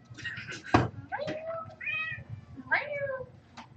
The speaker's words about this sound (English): God, I love chatty cats. Silly kitty. What are you looking at?